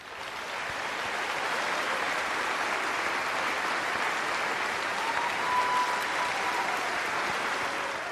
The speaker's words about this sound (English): So please help me welcome again these patriots with a grateful nation's round of applause.